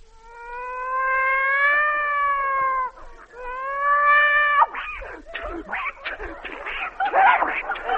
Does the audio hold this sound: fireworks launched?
no